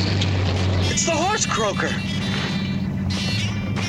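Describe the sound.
A truck engine rumbles steadily and loudly throughout, a constant low drone while a man speaks over it.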